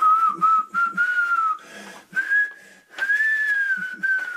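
A person whistles a poem in short, speech-like phrases, the clear tone gliding up and down with brief pauses between bursts.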